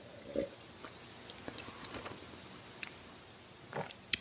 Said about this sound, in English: So we're going to give it a little swirl and a nose, give it a little sniff and a sip.